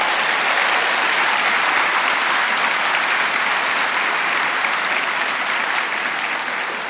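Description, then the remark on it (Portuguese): An audience applauds Jesus, steadily and loudly, a dense wash of many hands clapping at once without pause for the full length, with no voices standing out above it. “Pode aplaudir Jesus.”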